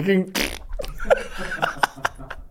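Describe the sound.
A person blows a loud, sputtering fart-like raspberry with their mouth, mimicking the noise a 2006 Nissan Micra car makes, followed by a couple of short bursts and light laughter.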